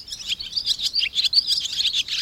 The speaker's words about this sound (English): Maybe now the chatter of the barn swallow is a more pleasing sound.